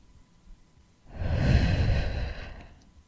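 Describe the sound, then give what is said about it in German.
A single long, breathy exhale as someone breathes close to a person's face, rising softly and fading over about two seconds, with no talking around it. “Jemand atmet dich an deinem Gesicht.”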